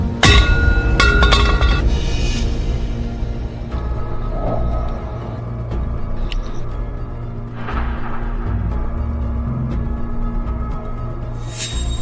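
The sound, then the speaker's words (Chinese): A young woman smashes a shared bicycle: a burst of loud metallic blows and clanks at the start, then a few scattered knocks and rattles over a steady low background rumble. “砸共享单车可是犯法的， 我们已经录视频报警了。”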